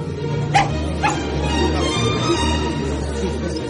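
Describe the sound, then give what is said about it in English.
Lady Malinger's small lapdog, which she carries around, gives two sharp, high-pitched yips about half a second apart, then falls quiet over a steady low murmur of background noise. “Lady Malinger carries that dog around as if it were part of her dress.”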